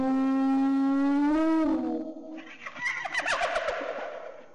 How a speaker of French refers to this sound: Il arrive parfois que le hurlement d'une hyène se fasse entendre et les brebis ont peur.